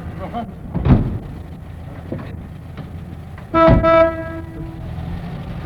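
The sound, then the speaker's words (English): A single loud, steady whistle blast rings out for about half a second, rich and tonal, after an earlier sharp hissing burst over a low, rumbling background of mechanical noise, as a crowd departs from Gough Square very early in the morning, heading for Dover. “And after that whistle, we'll probably have the police round here too, I should think.”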